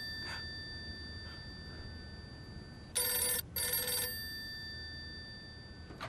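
A telephone rings twice in quick succession, a bright, buzzy electronic trill heard loud over a steady faint hum.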